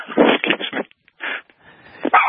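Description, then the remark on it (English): A dog barks in a quick cluster of sharp yelps, pauses briefly, then lets out a couple more loud barks to finish. “The dog agrees.”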